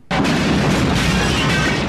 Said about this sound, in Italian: A quel segnale, il vecchio dio della pioggia scagliò un fulmine che colpì la roccia proprio nel punto più sottile. Ci fu una grande esplosione.